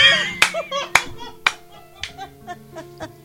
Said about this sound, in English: I don't know what happened. The connection is so bad, I just hear clapping.